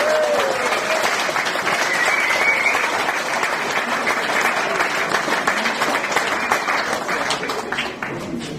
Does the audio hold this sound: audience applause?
yes